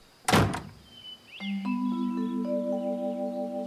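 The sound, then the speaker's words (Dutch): In a children's story, a mother mouse slams a door shut with one hard, booming thud, followed by a few seconds of steady, layered humming tones that swell in and hold. “Ze rennen naar binnen en moeder slaat de deur hard dicht. Klap!”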